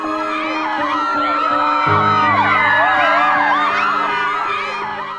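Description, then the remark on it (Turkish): A dense crowd of people speaking different languages, all shouting and calling out at one another at once in confusion, chaotic and loud, with a low sustained drone underneath throughout. “Farklı dilleri konuşan insanlar tam bir kargaşa içinde birbirlerine bağırmaya başladılar.”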